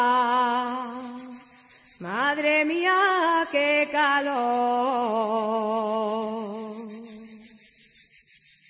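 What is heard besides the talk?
cicada singing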